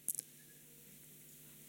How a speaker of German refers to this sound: Ich muss klicken.